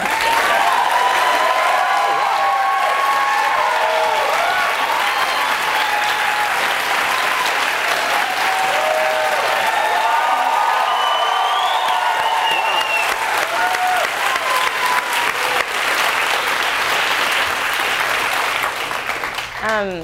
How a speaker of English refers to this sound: So can we just clap?